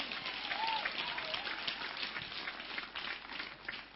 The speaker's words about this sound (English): Give a big hand clap to Jesus Christ.